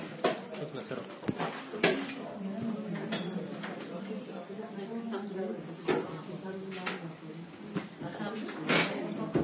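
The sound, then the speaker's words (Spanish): A closet door is pushed shut with several sharp wooden knocks and clunks scattered across the moment, while people murmur and talk in the background. “cierren la puerta del closet, no distraer.”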